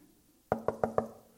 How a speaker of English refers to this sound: And then he heard a knock at the door.